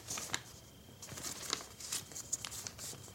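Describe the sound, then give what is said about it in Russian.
A folded paper waybill, a printed form, crinkles and rustles, crisp like a chervonets banknote: a string of sharp, crisp crackles in irregular bursts over a low hiss, with no voices. “А хрустит, как серый червонец.”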